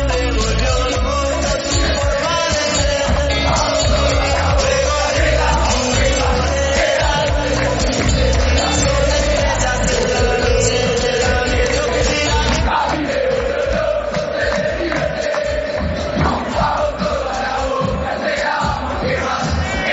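A packed stadium crowd of River Plate supporters sings the chant "A mí me vuelve loco ser de River Plate" in unison, loud and continuous for the whole stretch, with a steady rhythmic pulse and massed voices swelling together, no single speaker standing out.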